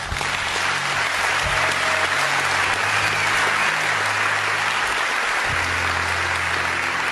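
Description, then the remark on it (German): Sustained audience applause fills the whole stretch, a dense, steady wash of many hands clapping at an even, fairly loud level, with no voices standing out above it. “Applaus”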